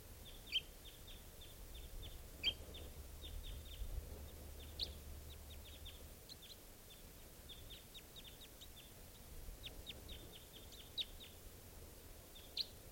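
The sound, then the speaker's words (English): A wild bird, a third type 2, calls repeatedly in quick, high-pitched chirps, scattered in irregular bursts over a soft low rumble, with no one speaking. “Recording, I just collected that bird, and it's hanging in the tree, and there's still a third type 2 around here somewhere calling stuff.”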